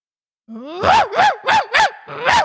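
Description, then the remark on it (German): A person imitates a barking dog, a rising whine followed by five loud, evenly spaced woofs, with no other talking. “Ja gut, das ist ein Hund.”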